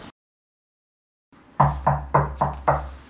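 Five firm, evenly spaced, loud knocks on a wooden inn door in Bethlehem, each with a short resonant thud, coming after a brief quiet pause.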